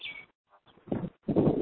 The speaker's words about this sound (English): Did somebody have a bird in the background? I'm just like laughing because I keep hearing a bird. I'm outside, so I've got road noise, birds, the occasional airplane is about 2 miles from the airport.